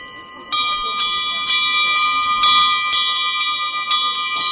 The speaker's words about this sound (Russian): У каждого колокола отшлифована юбочка, можно делать гравировку и, допустим, дарственные надписи детям и внукам на добрую память.